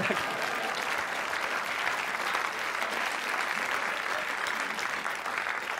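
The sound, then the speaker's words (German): Sustained applause from a sizable audience, many hands clapping in a dense, steady wash that holds at an even loudness for several seconds without breaking. “Es sind auch, ja, ruhig auch mal klatschen, ruhig auch alle.”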